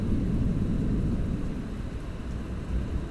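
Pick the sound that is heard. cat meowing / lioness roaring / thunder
thunder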